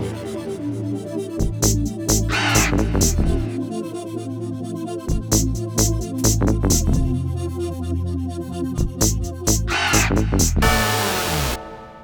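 A raven calls loudly and repeatedly, harsh croaking caws in uneven bursts, over a steady low hum, ending with a brief burst of hiss.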